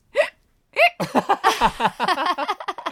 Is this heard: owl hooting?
no